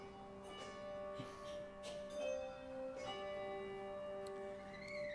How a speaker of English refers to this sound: Sisters and brothers, we invite you to hear Jonah's story all the way through. But instead of words, this story we will tell with the music of these gathered bells.